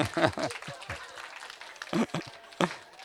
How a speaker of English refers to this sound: You can wave in the wind, right? You can clap your hands, because the Bible says the trees of the field will clap their hands.